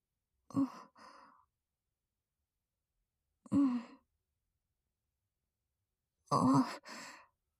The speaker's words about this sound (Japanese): またあくびしてる。いいよ、寝て。